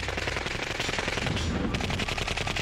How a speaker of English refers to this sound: They opened fire and the night sky was ablaze. The gunfire from the Uzi just lit up the place.